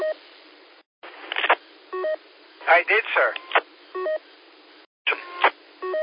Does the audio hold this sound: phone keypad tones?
yes